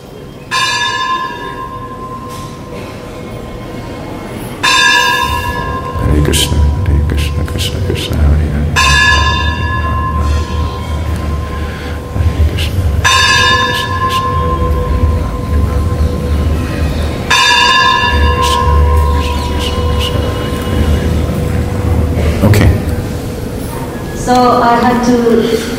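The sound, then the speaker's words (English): A resonant bell tolls slowly and steadily, each strike ringing out about four seconds apart and lingering, over a constant low rumble with faint voices in the background. “Let the bell finish, and then you can continue.”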